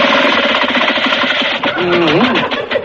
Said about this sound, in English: Oh, it runs, honey. I want you to hear the smooth-running motor. Oh, great motor. I'll start it up. I want you to hear the hum of it.